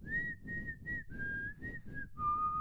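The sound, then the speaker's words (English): A person whistles a song melody, clear sustained notes stepping between pitches, with soft breathy rumble underneath and no talking. “Yeah, that's a great whistling song. Can you do it?”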